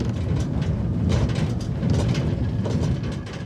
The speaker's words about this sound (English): There you can find a cable car up the mountain. The car's pilot secures the doors and releases the mechanism pulling one car down the mountain and the other one up it.